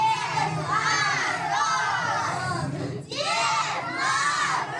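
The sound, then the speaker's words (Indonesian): A crowd of children cheers and shouts together in high, excited voices, a loud sustained clamor that dips briefly before surging again, welcoming Father Frost at the opening of a post office in the Central Children's Store in Lubyanka, Moscow. “Kedatangannya disambut meriah oleh anak-anak.”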